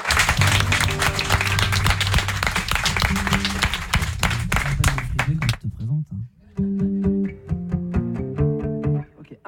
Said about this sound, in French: Cyril Nobilé au piano, on peut l'applaudir.